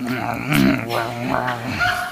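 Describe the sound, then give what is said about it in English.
A person imitates with their voice the low, rumbling growl of a lion eating its prey, a few continuous guttural pulses like a big cat growling contentedly while it eats. “You know, like there's sort of a growling, but like enjoying what I'm eating sound.”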